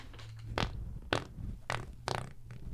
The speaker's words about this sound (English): dude, that was a stutter. That was a 3-4 stutter machine gun fart, dude.